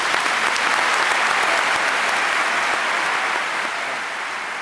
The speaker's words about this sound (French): Beaucoup d'applaudissements quand même pour cette Palme d'Or donc décernée au film de Michael, voilà, il faut retenir la leçon, Michael Haneke. Standing ovation même, ce qui est quand même assez rare pour une Palme d'Or.